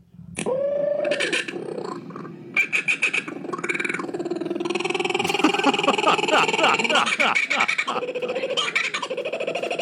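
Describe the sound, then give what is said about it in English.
Voices imitate Australian bird calls in a loud, unbroken stream of warbling whoops, chattering bursts and rising, wavering trills that overlap for the whole stretch. “You have a thing with bird calls, don't you?”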